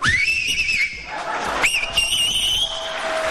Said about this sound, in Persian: ببین این آقا عزم میخوام سه تا انگشتش یا دو تاشو گذاشته تو دهنش داره سوت میزنه. من بهش میگم که توی جوون حیف، دهنت گشاد میشه، نمیخواد انگشتات تو دهنت بکنی. شما همینجوری هم میتونی سوت بزنی.